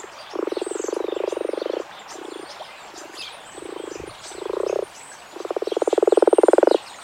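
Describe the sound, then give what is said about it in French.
Common frog calling: a series of low, rapidly pulsed croaking bursts of varying length, some long and purring, others short, fairly loud, with faint birdsong in the background and no talking. “Là, vous avez toutes les chances de voir ou d'entendre par exemple la grenouille rousse.”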